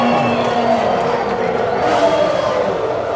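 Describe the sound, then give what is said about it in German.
A dense, continuous roar of a large crowd cheering in the grandstands at a Formula 1 race, steady and loud throughout, with many voices blending into a broad wash of noise and no single speaker standing out. “Ihr kennt das vielleicht, das Heulen der Motoren, der Geruch von Benzin in der Luft, den Jubel auf den Tribünen.”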